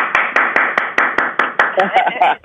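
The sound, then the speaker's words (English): Steady, rhythmic hand clapping, about eleven sharp claps at an even brisk pace, loud and close, with a wash of voices cheering and talking underneath. “Can we all do an applause”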